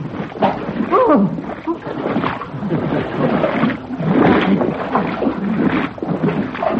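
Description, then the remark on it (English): Continuous, steady splashing and sloshing as a parson wades into water, with faint muffled voice sounds mixed in. “Put the portmanteau in the boat. Go on, Parson. Wade in. A little water won't hurt you.”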